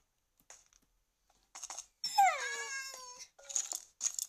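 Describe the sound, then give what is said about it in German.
A video game cat lets out one long, clear meow that slides downward in pitch, surrounded by short bursts of crunchy, scratchy noise before and after; no one speaks. “Jetzt hatte ist eine Katze oder wie?”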